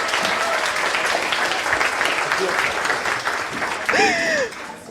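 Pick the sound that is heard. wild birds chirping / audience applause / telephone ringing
audience applause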